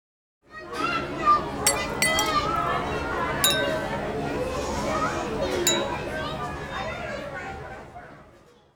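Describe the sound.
Plates, forks, knives, spoons and glasses clink repeatedly on a table, sharp bright taps scattered through a steady murmur of chatter and children's voices, like a busy restaurant.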